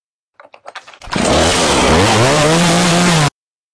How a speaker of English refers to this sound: That there, brethren and sistren, is a chainsaw. Because State Representative Danny McCormick, he's a manly man with a chainsaw. And yes, he's going after a mask. A little cloth mask that he's crucified between some wires hanging in midair.